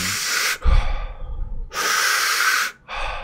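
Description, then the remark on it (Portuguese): A person breathes forcefully and deliberately in a conscious breathing demonstration: three loud, airy breaths in quick succession, each about a second long, with brief pauses between and no talking. “Se tu fizer de forma consciente, tipo assim. Ou com a boca, né?”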